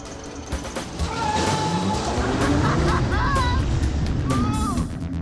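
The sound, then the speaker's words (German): A Spike Coaster roller coaster car accelerates as the rider, seated as on a motorcycle and held by a belt, gives throttle at the handle: a loud rush of noise builds quickly and holds steady, while a motor whine glides upward in pitch several times. “Einen Sicherheitsbügel hat der Spike Coaster nicht. Dafür aber einen fetten Gurt. Hier am Griff gibt man Gas.”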